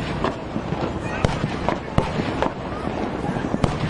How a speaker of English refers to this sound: Listen to this. This is the fireworks display last night. Going off. Pretty impressive, you know. 21 gun salute or something like that, probably, it sounds to me. Firing off cannons.